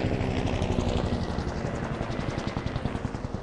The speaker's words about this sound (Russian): Темная тень снова пронеслась над ним, на этот раз гораздо ниже. Это был вертолет.